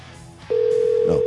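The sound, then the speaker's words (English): A telephone line tone starts abruptly after a brief quiet moment, then holds as one loud, steady, unbroken ring tone heard through the earpiece until the end, as a radio broadcast in Michigan calls a man's phone number. “And, of course, he never answered when we called the phone.”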